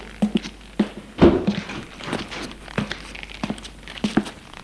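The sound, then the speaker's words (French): A series of soft, irregular thuds and taps of footsteps going down cellar stairs, with one heavier knock partway through, fairly quiet. “Il ouvre le portail et descend.”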